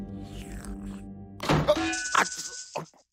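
A door is flung open without a knock first, in a sudden burst of wooden knocks and thuds, then a bright creaking rasp, ending in a final solid thud.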